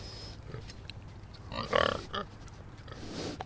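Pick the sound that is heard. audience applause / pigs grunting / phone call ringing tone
pigs grunting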